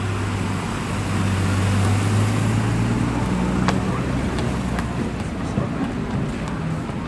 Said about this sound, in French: Jour de marché à Pontarlier sous une grande halle ouverte au vent, et on va essayer de trouver des vendeurs de fromage, de comté.